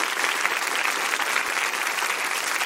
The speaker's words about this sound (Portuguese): Aplaudam Lilia Schwartz e Marisa Lajolo.